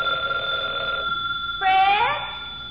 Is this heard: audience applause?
no